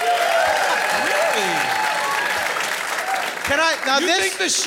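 crowd, audience applause

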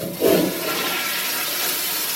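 household object, toilet flushing

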